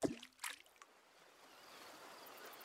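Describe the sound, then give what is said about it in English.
A quick whoosh and a sharp splash as a bottle thrown by an old man hits the lake, followed by soft, steady lapping and trickling of lake water. “Suddenly, the old man leaned back and threw the bottle as far into the lake as he could.”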